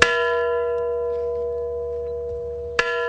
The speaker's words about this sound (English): A bell rang 25 times in Kiev, Ukraine this morning. It marked 25 years since an explosion at the Chernobyl nuclear power plant.